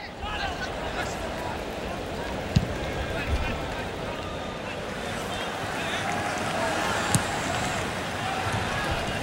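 A football match at the 2004 Athens Olympics: a steady, dense roar of a large crowd fills the whole clip, with a couple of sharp ball-kick thuds cutting through.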